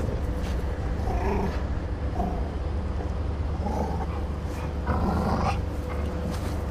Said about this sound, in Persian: تیکه گوشتا رو به سگ سیاه و بزرگش میده.